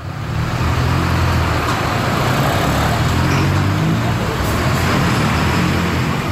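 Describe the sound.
Steady street traffic with cars and buses rolling past in front of a train station, a continuous loud rumble of engines and tires filling the scene, with a faint murmur of voices mixed in.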